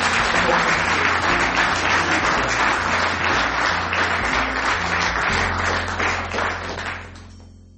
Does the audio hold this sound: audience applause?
yes